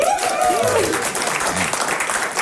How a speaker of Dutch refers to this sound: Applaus!